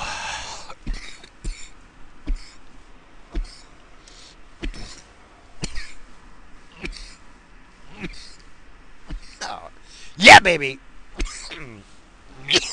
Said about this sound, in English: Just what you want to hear. Me coughing.